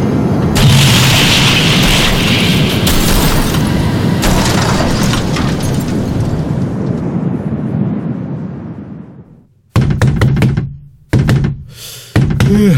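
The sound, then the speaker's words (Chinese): A loud, steady roar of strong wind on the night before the Nowruz festival fades out, then heavy pounding knocks on a door follow, three booming thumps in an uneven rhythm with brief silences between them. “哎，来了来了， 开门开门快开门。”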